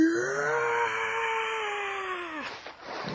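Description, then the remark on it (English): The Howie scream stock sound effect, heard in a TV pilot as a creature pulls his head off: a single long, anguished vocal scream held steady for about two and a half seconds before dropping off abruptly, followed by a brief noisy tail, with no talking. “Stock scream. I think that one's called the Howie scream, because in one of the first appearances, it was seen coming out of the mouth of Howie Long, but wasn't him actually making the noise.”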